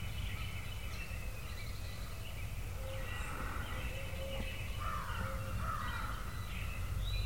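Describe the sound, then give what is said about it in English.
Several crows caw in repeated harsh bursts, a natural locator call, over a steady low rumble of background noise, with a few other faint bird calls mixed in. “first we had some hens sounding off, then a bunch of barred owls and crows and natural locator calls”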